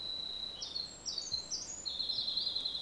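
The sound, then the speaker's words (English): A winter wren, a tiny bird, sings in the boreal forest of Alberta, a long, rapid string of high, tinkling trills and warbles that runs on without pause, bright and fairly loud over a soft background hiss. “And that's a tiny bird that produces a very loud song, and here in Alberta, at least in the boreal.”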